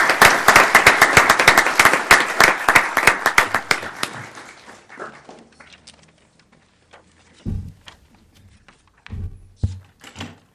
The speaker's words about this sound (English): Remember, round of applause.